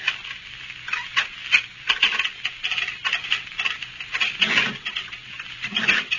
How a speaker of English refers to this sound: and get my keys and unlock the door.